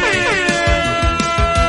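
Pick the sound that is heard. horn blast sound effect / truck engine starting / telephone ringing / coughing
horn blast sound effect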